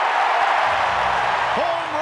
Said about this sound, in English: Listen to the crowd at Wrigley. They are really jacked.